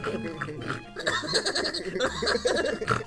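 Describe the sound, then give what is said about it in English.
A person imitates a pig eating, making a close, steady stream of wet snorts and grunts with a brief pause partway through, lasting about three seconds. “Show me how a little piggy eats.”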